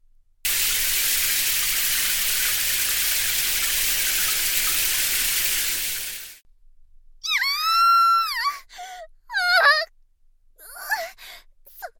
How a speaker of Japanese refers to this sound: このアジトにはね、あなたを仕留めるための罠がいっぱいあるの。例えばこんなクリプトニアのシャワーなんてどうかしら。